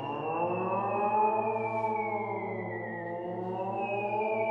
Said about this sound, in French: Les sirènes hurlent.